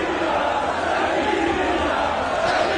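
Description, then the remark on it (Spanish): A large crowd shouts a name together in a loud, continuous roar, many voices blending into one sustained chant with no pauses across the whole stretch. “Ahora, ¿cuántos de esos güeyes están gritando”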